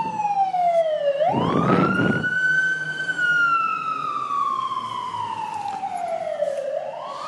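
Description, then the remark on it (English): A fire truck's siren wails loudly as the truck goes past, its pitch sliding down, then swooping up and slowly falling again, with a brief burst of heavy engine rumble as it passes. “There's a fire truck going past.”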